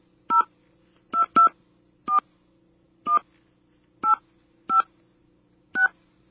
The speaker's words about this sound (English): now we're going to dial the number. Leaving off the leading zero.